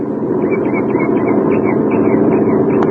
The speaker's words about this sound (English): As a truck from one of the neighboring farms approaches, he holds his ancient rifle at his side and waves the truck to a stop.